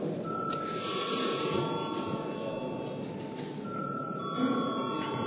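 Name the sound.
parliament voting bell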